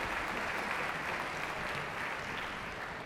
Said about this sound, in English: Thank you so much. It's a huge undertaking, and if we could give them a round of applause, they're the behind-the-scenes people who make this happen.